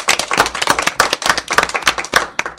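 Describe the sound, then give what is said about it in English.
A short burst of applause opening the April 21st edition of Transitions Radio, with several pairs of hands clapping in quick, irregular overlapping claps, fairly loud, lasting a couple of seconds with no talking. “Let's get a round of applause.”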